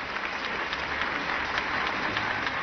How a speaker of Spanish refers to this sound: Y, ay, mira, le dieron un aplauso a él también. Qué barbaridad.